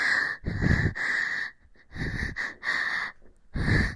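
Heavy, raspy panting breaths from two people repeat in a quick, uneven rhythm, about six loud huffs with brief pauses between them, in a quiet restroom of a bar, with no talking.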